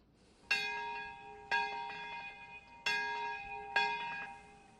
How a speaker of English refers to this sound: Traditional Japanese bells ringing in Nagasaki's Peace Park and all across the nation Thursday, marking the 73rd anniversary of the atomic bombing of that city toward the end of the Second World War.